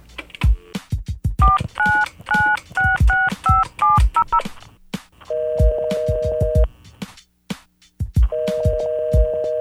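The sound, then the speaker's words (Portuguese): A telephone number is dialed: a rapid series of short two-tone keypad beeps, each paired with a soft button click, followed by long steady ringback tones with a pause between them. “Liga pro parceiro lá, mano, pro Tani aí, ó.”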